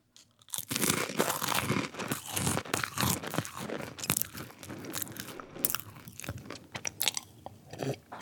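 Loud crunching and chewing of crisp crackers, with dense irregular bites and crackles filling about eight seconds, no talking.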